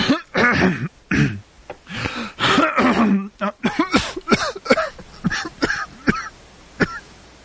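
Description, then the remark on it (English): A loud run of coughing and throat clearing: a few rough, drawn-out hacks at first, then a rapid series of short, sharp coughs that gradually trail off. “Excuse me while I cough.”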